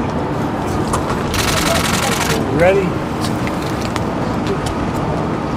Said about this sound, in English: There he goes. He drives it. There he goes, driving off. Impressive machinery.